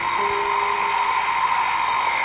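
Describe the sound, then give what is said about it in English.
An alarm clock buzzes without a break, a loud, harsh electronic tone holding one steady pitch from start to finish, with no voices over it. “Your alarm to wake you up. Turn it off.”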